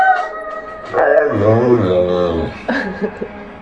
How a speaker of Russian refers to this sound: Говорящие собаки прямо сейчас в нашем эфире. Давайте послушаем. Прямо сейчас говорящая собака, пожалуйста.